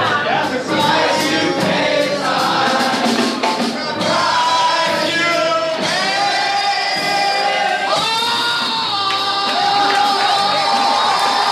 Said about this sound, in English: The crowd claps their hands over their heads for Marsha in a headband made of mirrored tiles.